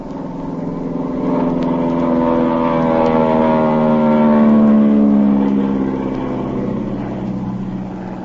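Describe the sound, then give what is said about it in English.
A propeller airplane engine drones overhead as the plane flies over a boat on the ocean, a steady harmonic hum that swells louder through the middle as it passes, then eases off slightly, with no voices. “I'm going to fly over them.”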